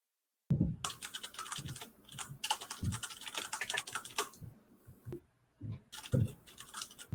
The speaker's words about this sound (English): Let you finish typing noises, and then we can ask the next question, for which there is one.